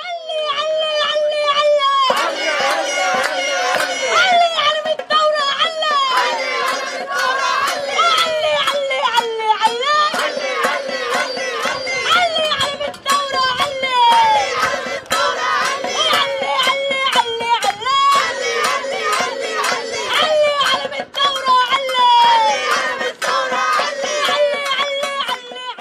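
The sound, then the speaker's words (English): A crowd of voices shouts and screams without pause, loud, high-pitched and strained, with overlapping yells and wavering cries over a steady babble for the whole stretch, at a pro-Hamas protest encampment on a university campus. “And then you find out that this screaming savage is part of a radical Muslim violent pro-Hamas encampment permitted on campus, screaming at your Jewish kids, hoping that they're dead.”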